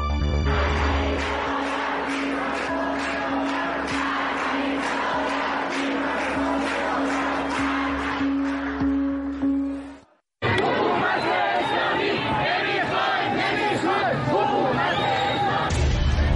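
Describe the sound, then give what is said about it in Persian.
A large protest crowd in the streets of Iran, part of nationwide protests, chants slogans, some targeting Ali Khamenei, in loud, rhythmic unison, with a steady hum underneath; after a brief cut around ten seconds, more shouting and chanting from the crowd continues. “اتحاد در اعتراض، خیابان‌های ایران فریاد یک درد در چند روایت، ادامه اعتراض‌های سراسری و اتحاد شهرها زیر چتر یک خواسته، شعارهایی که علی خامنه‌ای را هدف قرار دادند.”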